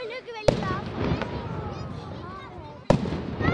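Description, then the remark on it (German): Two sharp, booming ceremonial Böller salute shots ring out a few seconds apart, echoing outdoors opposite the Münster over a lively crowd murmur with voices talking nearby. “Die Böllerschüsse sind schon von weitem zu hören.”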